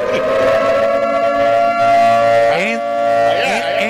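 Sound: alarm siren sounding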